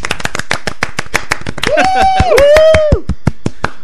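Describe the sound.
Steady, rhythmic hand clapping from what sounds like a small group, with a drawn-out voiced cheer rising over the claps midway before the clapping carries on alone.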